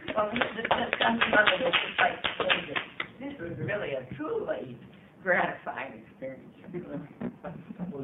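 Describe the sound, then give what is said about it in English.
A short burst of audience applause at a public hearing, many hands clapping together for a few seconds to recognize a presentation, then tapering off as people start talking and murmuring. “I was going to suggest, Madam Chair, that we should recognize the excellent presentation that the son has provided. Applaud.”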